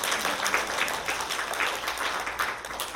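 A crowd applauds steadily, many hands clapping into a dense, continuous patter that holds an even loudness for the whole stretch, with no voices standing out above it.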